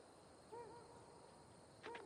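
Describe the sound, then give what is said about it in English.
Two soft owl-like hoots, a portly man imitating an owl's call, spaced about a second apart over a faint steady hiss, with no other voices. “Elsewhere, a portly man makes bird calls.”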